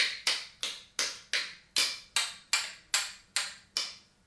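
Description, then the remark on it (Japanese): A toy mallet taps around ten times in a steady, even rhythm, each knock sharp and bright with a quick fade, with no voices. “これね、これで叩くんだよ。こうやって。トントントントン。”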